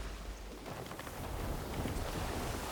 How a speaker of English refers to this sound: The crew hoist the sails, the canvas bulges, and soon water is rushing beneath the canoes once again.